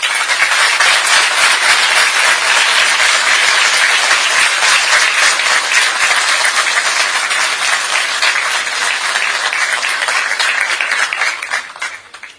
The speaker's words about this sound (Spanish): Gracias y pido un fuerte y respetuoso aplauso para ustedes.